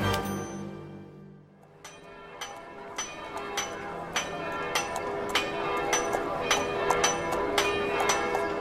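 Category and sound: signal or alarm, church bells ringing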